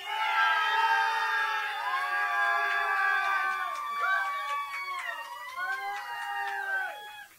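A crowd cheers loudly and steadily, with high shrieks, whoops and wavering yells rising above a dense roar that continues for several seconds before fading slightly.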